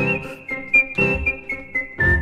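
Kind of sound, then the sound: signal or alarm, whistled radio station jingle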